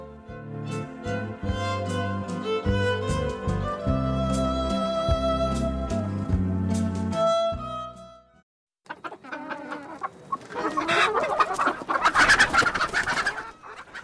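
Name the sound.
chickens clucking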